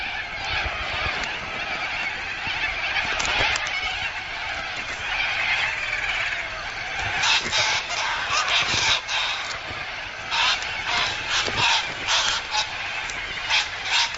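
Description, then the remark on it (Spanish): A dense, continuous chorus of harsh, raucous squawking from a large flock of little corellas squabbling over the best perches along the Murray River, loud and overlapping with no pauses, sharper bursts cutting through toward the end. “Las cacatúas sanguíneas discuten por las mejores perchas.”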